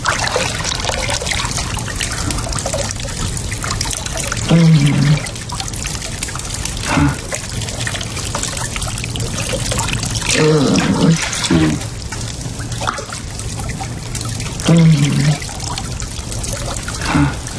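Water pours and splashes steadily throughout, in a series scene where Jamie pours water over Claire, broken every few seconds by short voiced groans or cries.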